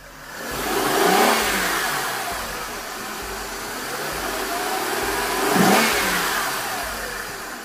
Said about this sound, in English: The pulses are almost like the heartbeat of a lion in the jungle, and he is on the hunt. You hear the engine revving as it climbs the hills on search for prey.